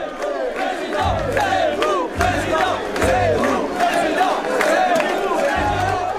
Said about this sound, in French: Quand il arrive devant une nuée de caméras, de micros, la foule applaudit « Zemmour président, Zemmour président ».